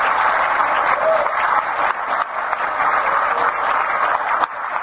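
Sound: audience applause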